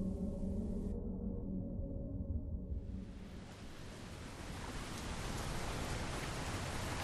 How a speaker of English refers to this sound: There was a fine mist on the sea's face, and a ceaseless drizzle sweeping in from the east carried the taste of salt.